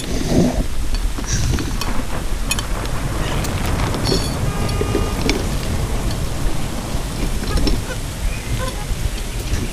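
A sudden heavy rainstorm pours down at full force in a dense, steady roar for the whole stretch, loud and unbroken, with a deep rumbling undertone beneath the hiss of countless drops.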